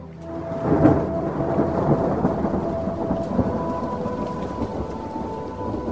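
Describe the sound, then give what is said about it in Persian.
A steady downpour of rain hisses continuously during the rainy season in Japan while low rumbling thunder rolls beneath it, building early and lingering throughout. No voices are present. “میگویند یک ماه تمام باران میبارد.”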